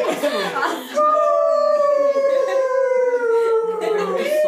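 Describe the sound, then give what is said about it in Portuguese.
A dog lets out a long, drawn-out howl that slowly slides downward in pitch and holds for several seconds, fairly loud, following a brief moment of talking. “A gente fala de cachorro, passa um uivo.”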